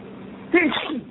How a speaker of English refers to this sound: Excuse me. Bless you.